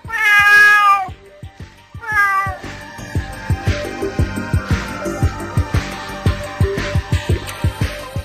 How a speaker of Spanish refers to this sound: Tiene orejas de gato, ojos de gato, patas de gato y no es un gato. ¿Quién es? Una gata.